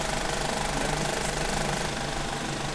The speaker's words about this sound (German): Der Film macht das Geräusch, das ist Flattern.